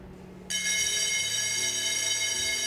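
An electric school bell rings for the break, starting abruptly and ringing continuously with a bright, sustained metallic clang, loud and steady, with a faint low hum underneath and no voices.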